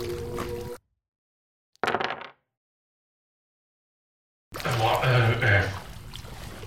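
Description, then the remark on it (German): Brief bursts of water sloshing and splashing as a person wades chest-deep in water, broken by a moment of silence, then more churning water with a voice sounding over it toward the end. “Warum bin ich bis zur Brust im Wasser?”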